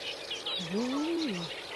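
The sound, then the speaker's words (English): Busy, continuous chattering of reed warblers in a reed bed in Wales, a scratchy stream of rapid churring notes, with a brief low murmur rising and falling beneath them. “You can hear the reed warblers still chuntering away.”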